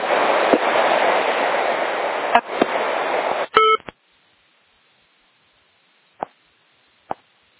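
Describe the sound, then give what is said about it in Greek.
Telephone dialing tones: a brief burst of electronic tones after a few seconds of loud, hissy line noise, then quiet broken by two sharp clicks. “όχι, συγγνώμη, παίρνω σε κινητό και το καλό σε σταθερό, καλή κανονικά, μα δεν το ακούτε.”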